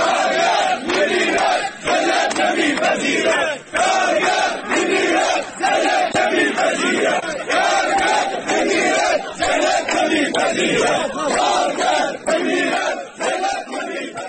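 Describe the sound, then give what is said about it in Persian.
A crowd of striking workers of the Mian Ab sugarcane agro-industry company in Shush County chants protest slogans in unison against their work contracts, low wages and company management, loud and steady, with rhythmic shouted phrases repeating throughout and brief dips between lines. “کارگران اعتصابی همچنین با سر دادن شعارهایی به وضعیت قراردادهای کار، دستمزد پایین و عملکرد مدیریت شرکت اعتراض کردند”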